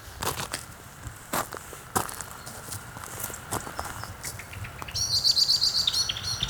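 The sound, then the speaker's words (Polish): Crunching footsteps approach outdoors, then a blackbird, approached too closely by the walker, bursts into a rapid, sharp series of alarm chirps near the end. “Ohohoho, za blisko kosa troszkę podszedłem.”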